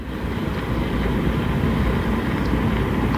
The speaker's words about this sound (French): Alors c'est un ferry qu'on entend, nous sommes au large de l'île de Porquerolles dans la Méditerranée et les bruits des bateaux font partie de ce qu'on appelle l'anthropophonie, hein, les sons générés par l'homme